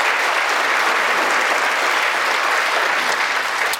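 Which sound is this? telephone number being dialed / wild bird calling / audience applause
audience applause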